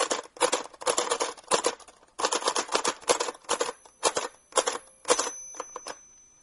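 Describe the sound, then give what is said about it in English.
A vintage typewriter clanks away in quick, irregular bursts of sharp mechanical strikes. Its bell rings faintly several times under the clatter, and a thin sustained tone lingers toward the end. No one speaks. “So here again, we get a machine where the bell rings several times and sounds like.”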